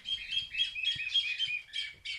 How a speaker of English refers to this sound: Hear that bird? It's called a chilalo. It's unique to northern Peru, and village elders watch this bird closely to understand what weather might be coming.